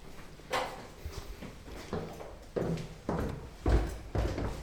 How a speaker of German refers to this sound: Hier sieht man gleich wieder die Tür zum Garten. Man hört es, da kann man rausgehen, es ist eine relativ breite Türe.